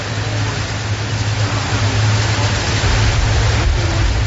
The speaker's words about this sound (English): I can't hear anything. It's too windy. They didn't have any mics there.